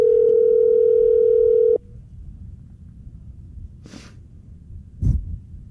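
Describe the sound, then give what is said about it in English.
A phone rings on the other end of an unanswered call: one steady electronic ringback tone lasting about two seconds, then a quiet pause broken by a couple of soft breathy noises. “See, he's not answering.”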